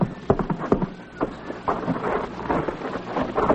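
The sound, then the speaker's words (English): A battalion of soldiers marching, heard as a dense run of heavy, thudding footsteps in a loose, steady rhythm over a constant windy hiss, with no voices. “Sounds like a whole battalion marching straight this way.”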